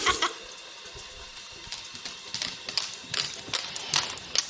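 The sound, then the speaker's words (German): Paws being washed under a running tap: a steady rush of water broken by irregular splashes and sloshing bursts, with no voices. “Noch schnell die Pfoten und das Wasser halten, schön waschi waschi machen.”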